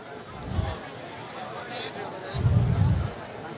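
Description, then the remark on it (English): Dense crowd chatter fills the scene, a steady murmur of many overlapping voices with occasional louder low rumbles and bumps, continuous, from a huge crowd surrounding a congressman on all sides. “The crowd is still huge, surrounding the congressman on all sides.”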